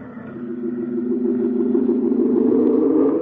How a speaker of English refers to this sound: The man in the truck says, hop right in, son. I'm on my way to town. Well, thanks, mister. And the truck drives off.